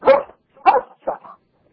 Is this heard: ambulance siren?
no